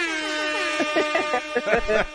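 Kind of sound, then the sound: sound effect, air horn sound effect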